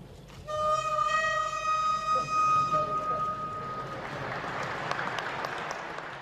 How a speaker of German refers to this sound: Wie die Prager Orgel einmal klingen wird, konnte Dominik Kardinal Duca bereits ausprobieren. Der spanische Meister hat nämlich bereits jetzt eine Pfeife nach Tschechien mitgebracht. Der erste Ton gilt unter Orgelbauern als eine Art Grundsteinlegung.